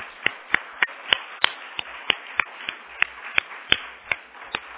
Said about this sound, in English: And so this is just a small little appreciation. So why don't we give a round of applause for the moms.